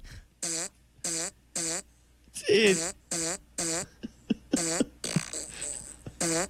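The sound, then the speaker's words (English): A run of short, buzzy farts in a steady rhythm playing Jingle Bells, fairly loud, with a man briefly exclaiming partway through. “He was playing Jingle Bells with his ass.”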